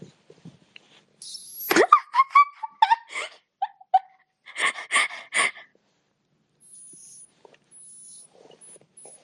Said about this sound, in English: Today we're doing glass triggers. And now I will drink from this bottle.